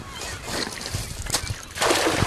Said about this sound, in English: The net splashes into the water and he starts reeling it in.